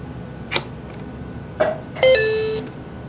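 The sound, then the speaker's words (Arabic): A short electronic chime plays as a USB flash drive is reconnected to the device: two quick clicks followed by a bright, sustained tonal beep with several harmonics that fades out after about half a second. “هيك تم توصيل الفلاش ديسك.”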